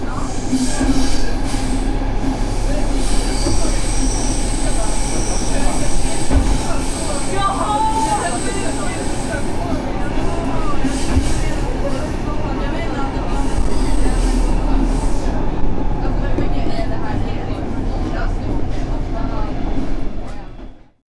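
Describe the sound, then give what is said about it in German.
A Stockholm Tunnelbana subway train rumbles steadily through a tunnel, with a deep continuous roar, faint wheel squeals and rattling, staying loud throughout before cutting off abruptly. “U-Bahn-Linien in Europa. Stockholm Tunnelbana.”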